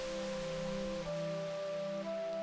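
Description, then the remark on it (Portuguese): Steady wash of ocean waves at a beach on a bright, sunny day, a continuous hissing surf with no distinct breaks, blended under a soft sustained musical drone whose pitch steps up twice. No one speaks. “Você poderá ouvir o som das ondas do mar.”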